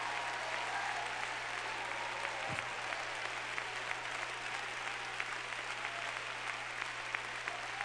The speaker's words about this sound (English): Clap your hands and get on your tiptoes right now.